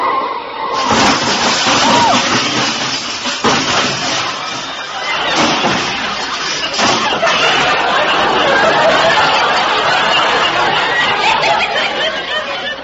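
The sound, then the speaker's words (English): A car skids and crashes into a big black touring car, knocking off its fenders, in a loud, dense burst of noise that starts abruptly and churns on for several seconds, with muffled voices faintly mixed in. “Walter, look out! That car! What car? That big black touring car!”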